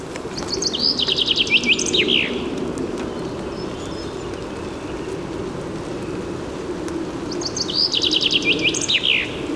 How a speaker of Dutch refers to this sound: Maar dit is de zang van de vink. Kan ik ook nog wel even opnemen voor je.